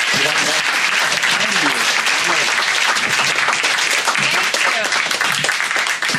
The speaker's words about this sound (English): Big round of applause, everybody.